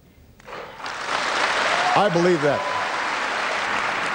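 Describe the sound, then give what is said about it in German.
Sustained standing applause from about 1000 young Israelis fills a big hall, a dense wash of clapping that swells in within the first second and holds steady, with a brief voice or cheer rising over it midway. “Ab diesem Zeitpunkt gibt es aber immer wieder stehenden Applaus von den rund 1000 jungen Israelis im Saal.”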